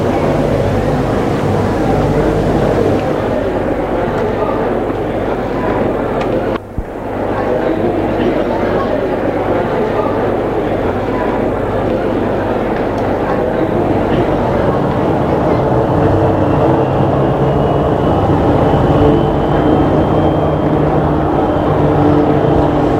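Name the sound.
airplane engines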